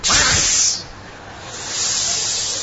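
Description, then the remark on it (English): A crowd of people hisses like snakes: a loud, breathy burst that fades, then swells again into a sustained hiss, with no talking. “These are envious snakes.”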